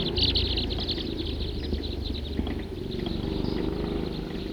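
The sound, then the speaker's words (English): A large flock of about 50 crossbills calls all at once: a dense, steady chatter of short, high chip notes overlapping throughout, over a low rumbling background, with no voices. “Very big flock. 50 crossbills.”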